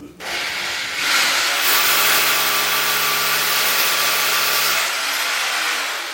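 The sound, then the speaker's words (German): A power drill bores a hole for a Fischer wall plug (dowel) during a product demonstration, its loud grinding whine holding a constant motor pitch for several seconds before cutting off and winding down. No one speaks over it. “Erst wird das Loch gebohrt, dann gesäubert und schließlich kommt der Dübel rein.”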